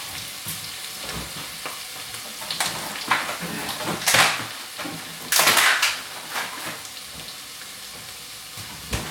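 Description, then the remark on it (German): Onions for a chili sizzle and crackle steadily in a hot pan, a dense hiss with louder bursts of spattering around the middle as they're stirred, and no one speaking. “So, meine Zwiebeln sind drin.”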